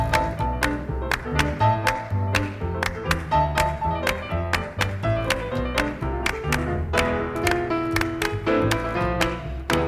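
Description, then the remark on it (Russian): Jazz drums played with drumsticks only in 7/4: crisp, steady stick hits and cymbal taps drive a loud band groove over a warm bass and piano backing, with no voices; a 1961 recording made at the Columbia studio in New York. “Он играет здесь лишь барабанными палочками, счет 7-4.”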